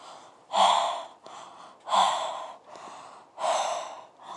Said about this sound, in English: Listen to her breathing, her lustful moans.